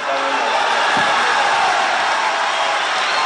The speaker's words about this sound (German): Derzeit sieht es so aus, als ob das neue Gesetz den Senat passieren wird. Genauso wie es im Abgeordnetenhaus angenommen wurde. Mit tosendem Applaus.